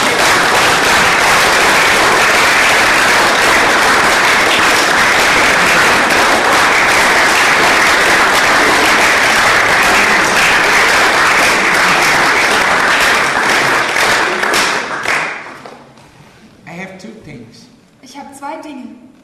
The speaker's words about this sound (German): Let's put our hands together for Jesus. Lass uns come mal on. Klatschen für Jesus.